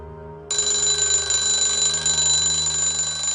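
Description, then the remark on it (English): An alarm clock starts ringing abruptly after a brief low hum, then keeps going as a loud, continuous, shrill metallic ring that doesn't let up. “slaps her alarm clock.”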